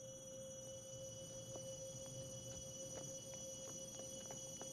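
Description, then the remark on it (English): Hurried footsteps of a woman tap quickly and evenly across pavement toward a hospital entrance, starting after a brief pause and continuing at a brisk pace, fairly faint against a steady background hum. “She hurries back toward the hospital entrance.”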